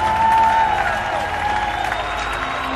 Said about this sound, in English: The band's coming out for a second bow. And once again, applauding for the audience.